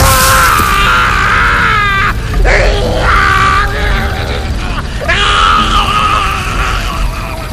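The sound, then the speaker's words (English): A man screams in pain, loud, in several long, strained cries broken by short gasping pauses, with rough groaning edges throughout. “The scream froze the rest of the man-eating tribe in an instant.”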